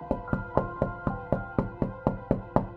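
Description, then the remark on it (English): A man knocks on his sister's front door at her home: a steady run of about a dozen firm knocks, evenly spaced, each hit ringing briefly with a hollow wooden resonance. No voices. “As he knocked, her brother thought through the possibilities.”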